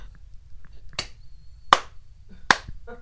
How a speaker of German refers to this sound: Also da musst du aber klatschen, dann brauche ich den Groove, ja. So ein bisschen.